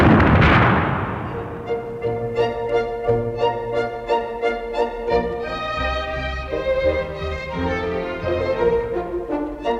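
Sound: cannon firing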